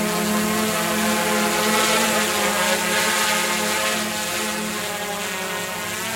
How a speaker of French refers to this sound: Donc là, le drone va monter jusqu'en haut du sapin. Ouais, correctement, on doit s'élever d'ailleurs.